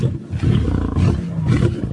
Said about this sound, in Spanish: Escucha. Con ese rugido los otros corren.